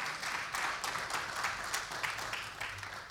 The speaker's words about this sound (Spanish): Este auditorio colmado de gente que los está aplaudiendo y disfrutando.